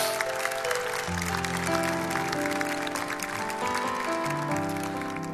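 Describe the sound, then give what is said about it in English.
An audience claps steadily and densely for several seconds for first-time guests at an evening gathering, a continuous crackling wash of many hands, with sustained musical chords playing underneath. “Let's give them a big hand clap, our first-time guests tonight.”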